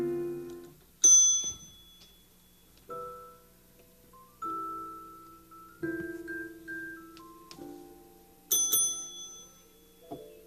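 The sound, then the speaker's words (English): A doorbell rings out a slow melodic chime, about six bright notes at shifting pitches, each struck cleanly and left to ring down before the next, with no voices. “somebody ringing for me.”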